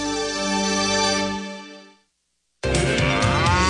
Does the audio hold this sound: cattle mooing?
yes